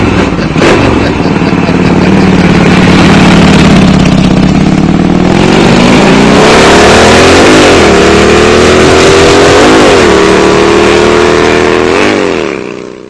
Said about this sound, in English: Boy, you got to give it to them, Fred. They really haul the mail with that motorcycle, they don't do.